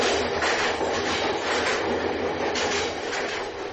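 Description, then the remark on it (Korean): A train heading to the Sohae launch site at Dongchang-ri, North Korea, rolls steadily along the tracks, its continuous rumble and rhythmic clatter filling the scene at an even loudness with no voices present. “그리고 발사장으로 향하는 기차 안에는”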